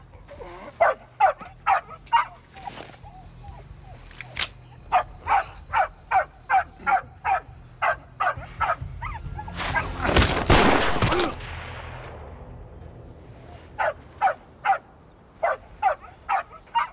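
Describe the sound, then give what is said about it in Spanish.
A dog barks rapidly and steadily, dozens of sharp, evenly spaced barks, broken midway by a loud rushing burst of noise before the barking resumes. “Y también mata al perro.”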